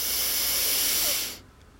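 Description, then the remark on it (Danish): A single deep, airy inhalation taken while seated during a guided breathing exercise, a steady breathy hiss lasting just over a second before cutting off into quiet. “Tag en dyb indånding.”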